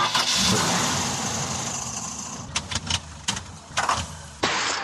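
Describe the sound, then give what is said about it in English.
A car engine cranks and catches, sputtering with a few sharp bursts before falling into a rough, steady idle. The sound is fairly loud, with no voices. “Brr, your car sounds like it needs a snow day.”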